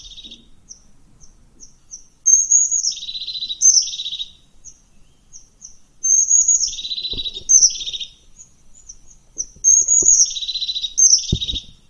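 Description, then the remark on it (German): Crested tit calls: thin, high-pitched notes leading into buzzy, rolling trills, repeated in several bursts of chatter, clear, with a few soft low knocks in the background. “Die Haubenmeise, ich spiel mal die Haubenmeise ab.”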